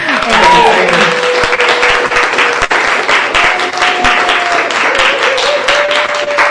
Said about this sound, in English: Thank you. Waiting for the applause to die down.